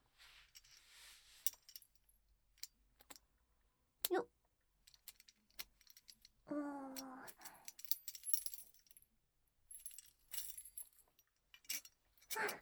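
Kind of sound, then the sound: household object, keys jangling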